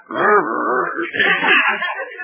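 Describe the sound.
A man makes a rough, throaty dog-like growl, a continuous snarl of about two seconds that turns higher and whinier toward the end.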